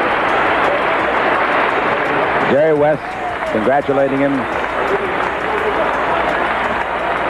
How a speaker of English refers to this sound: Kareem Abdul-Jabbar has 30,000 points. The second man in basketball history to do it. A standing ovation at Portland, Oregon. Boy, that is great.